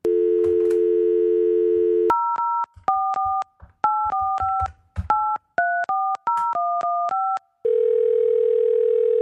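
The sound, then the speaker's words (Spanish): A steady telephone dial tone, then a quick run of two-pitch keypad beeps as a number is dialed for an outgoing call, ending as a low steady ringing tone starts. No one speaks. “Pero ya, vamos a llamarle ahora.”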